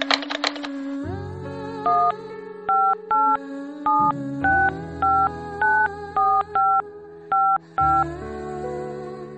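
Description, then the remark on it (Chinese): A steady dial tone hums while a series of short, evenly spaced keypad beeps punch in a phone number to call someone back, about a dozen crisp dual-tone presses in a regular rhythm, clear with no one talking. “啊啊，行行行，那我给你打回去。”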